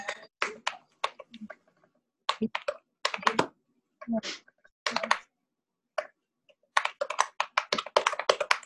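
Someone types on a computer keyboard in quick, uneven bursts of crisp key clicks, pausing briefly between runs. The tapping is moderately loud, speeding into a dense flurry near the end.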